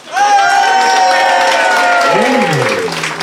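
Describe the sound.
An audience votes by applause on which side of a debate is in the right, breaking into loud, sustained applause mixed with whooping cheers and shouting voices, holding steady for about three seconds before easing slightly at the end.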